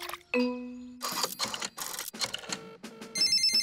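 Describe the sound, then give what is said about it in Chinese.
A telephone rings loudly in a series of short, jangling bursts, with a brief tonal chime at the start and a warbling electronic ring at the end. No one speaks. It is a call from Grandpa Dog's repair service in a Peppa Pig cartoon. “这里是狗爷爷的维修服务电话。”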